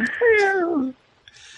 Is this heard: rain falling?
no